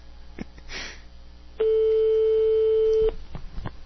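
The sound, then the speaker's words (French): A single European telephone ringing tone: one steady, loud, buzzy beep lasting about a second and a half, set against a quiet background of faint noise and small clicks. “On va bientôt entendre la sonnette européenne.”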